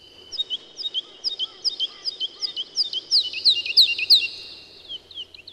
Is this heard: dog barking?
no